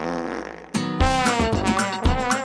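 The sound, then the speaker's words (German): A whoopee cushion lets out a loud, buzzing, flatulent blurt after a brief quieter lead-in, its reedy harmonic tone sputtering and wavering for about two seconds. “Das beste Kissen ist das Furzkissen, denn damit kann man Streiche spielen.”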